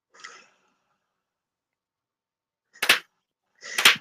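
A slow clap: a soft first clap, a long pause, then two sharp, loud claps about a second apart, with no talking.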